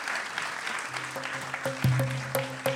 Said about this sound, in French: Je pense que vous pouvez applaudir tous les personnages qui ont été invités. Alors, merci.